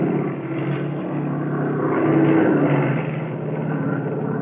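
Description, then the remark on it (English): A steady, loud engine drone hums continuously with a low, throbbing rumble from a plane limping through the sky after its equipment, machine guns and cannon were thrown overboard, holding fairly even with a slight swell partway through. “Equipment showered down as the plane limped through the sky.”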